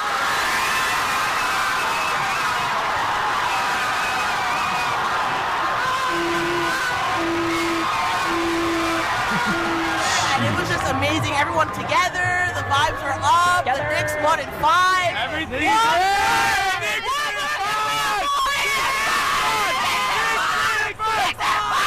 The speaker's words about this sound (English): This one says Knicks fans celebrating after the title.